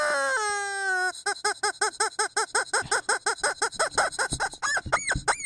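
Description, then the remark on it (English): A squeaking rubber chicken dog toy: a long drawn-out squeal, then a rapid run of about twenty sharp rhythmic squeaks, ending in a few rising honks, loud with no talking. “Check that chicken.”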